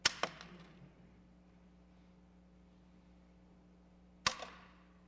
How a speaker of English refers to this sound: All the sound of all that money, and then two coins.